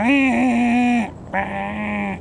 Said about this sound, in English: Phil was pretty sure that I'd heard couches, spadefoot toads. I fully expected it to be nothing but couches, spadefoot, because of their ability to use such short-lived water.